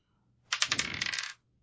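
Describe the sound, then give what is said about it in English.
A handful of dice clatter and rattle across a hard tabletop for just under a second, a dense burst of bright clicks and taps with no talking, rolled for a Wits and Composure check in a tabletop role-playing game. “Oh, I have that amount of dice.”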